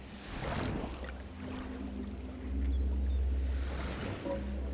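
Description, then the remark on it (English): Ocean water swirls and surges in a continuous wash, swelling louder midway, with a deep, steady low rumble running underneath the whole time. “Currents loop around you, pulsing water around your body.”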